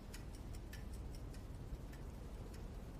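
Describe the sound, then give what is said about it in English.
A clock ticks softly with crisp, evenly spaced clicks over a faint low hum. The ticks come quickly at first and then space out, with no one speaking. “He looks over his shoulder, then at the clock.”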